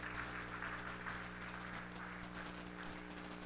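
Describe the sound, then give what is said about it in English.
An audience claps hands together for the Lord one morning in a dense, steady burst of applause lasting the whole stretch, the many overlapping claps forming a continuous crackle over a low electrical hum. “Come on, somebody give the Lord a good hand clap this morning.”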